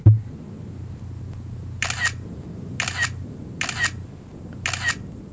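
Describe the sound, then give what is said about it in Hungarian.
An iPhone 4 camera shutter clicks in burst mode after a software update: four crisp, bright clicks at a slow pace of about one frame per second over a faint low hum, with no talking. “Ez legalább egy frame per szekundum volt. És ezt sorozatképnek nevezed már?”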